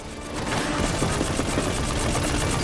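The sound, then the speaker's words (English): Loud, sustained machine-gun fire from a helicopter bearing down on a man along a concrete river channel. A rapid, unbroken stream of shots hammers on for the whole stretch, with no voices. “A helicopter bears down and opens fire on Jack, forcing him to dive for cover.”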